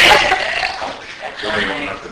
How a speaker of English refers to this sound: Play that one more time. See if the people in the chat room can hear the gross burping noise.